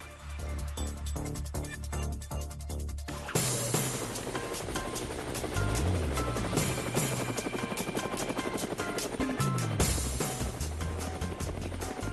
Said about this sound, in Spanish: Bueno, pues aquí llegó el helicóptero y yo con el naso buco y un poquito abrigado porque hay fresco, pues nos vamos a seguir.